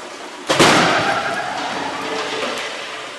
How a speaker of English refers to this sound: The pickup and its dummy occupant sit all innocent and unaware as the barrier zips down the hall, a guided drone intent on destruction.